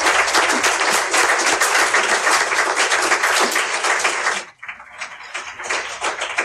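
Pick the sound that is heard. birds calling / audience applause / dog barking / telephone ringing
audience applause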